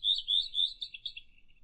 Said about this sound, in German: Was ist das? Der Gartenrotschwanz.